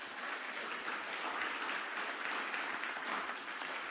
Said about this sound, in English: Give the Lord a good clap off this morning. Would you do that? Come on.